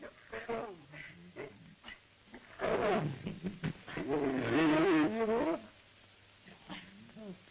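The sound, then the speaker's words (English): A lion growls at a man in two long, rough, rumbling bursts, loud, with quieter voices speaking briefly before and after. “But, here's then he starts growling at him.”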